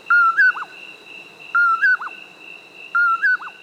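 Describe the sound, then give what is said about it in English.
A common poorwill, a nocturnal bird that hunts insects, calls three times at a steady pace, each a clear whistled phrase ending in a quick upward flip, over a constant high insect drone. “It's the common poorwill, a nocturnal hunter of insects.”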